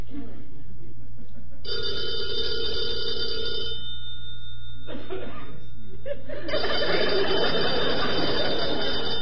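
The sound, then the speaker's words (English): A telephone bell rings loudly twice, each ring a sustained metallic trill lasting a couple of seconds, with chuckling and faint voices in the background. “Answer the phone.”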